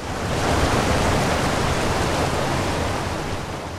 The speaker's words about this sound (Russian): Кивач. Водопад на реке Суна в Карелии.